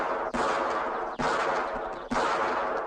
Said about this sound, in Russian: Это что же за стрельба, товарищи разведчики?